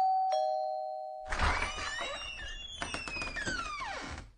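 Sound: doorbell ringing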